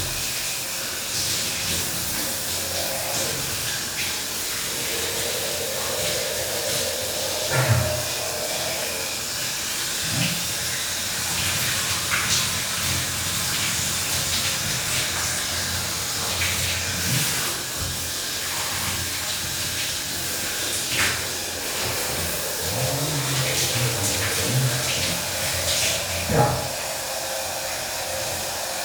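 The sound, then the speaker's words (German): A steady, broad hiss of warm shower water runs for the whole stretch, with occasional soft knocks and low shifting tones as the stream is interrupted. “Ja, ich werde noch ein bisschen schön warm duschen und nachher wird es schön kalt.”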